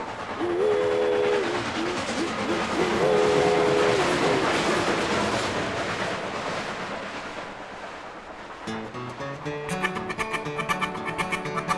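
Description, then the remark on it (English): A steam train engine rumbles and chugs steadily up a hill, its whistle sounding twice early on, before the train noise gives way to music with plucked, rhythmic notes near the end. “Puffin' and a-chuggin', you know that engine will reach the summit and go down the other side.”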